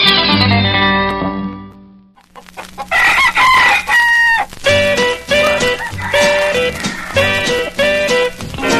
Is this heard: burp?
no